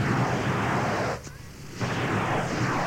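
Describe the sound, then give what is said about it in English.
A loud, continuous hissing crackle runs through, broken by a brief sharp bang and a moment of quieter rumble before the harsh fizzing roar returns, like a firework exploding. “Never return to a firework once lit. It may go off in your face.”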